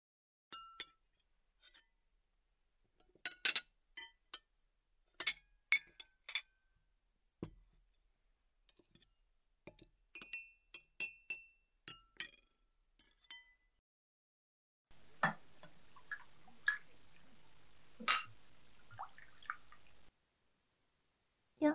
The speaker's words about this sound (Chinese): 这是你第一次洗碗吧？那你可是要好好的洗干净哦。